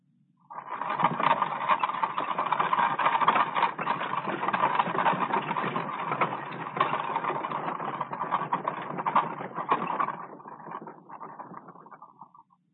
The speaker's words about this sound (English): For example, do you share with me a certain pleasure in hearing any of these sounds? Here's the creaking of wagon wheels.